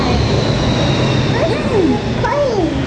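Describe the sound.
A steady, broad roar of an airplane passing overhead fills the whole clip, loud and continuous, with faint voices and a few sliding vocal sounds on top.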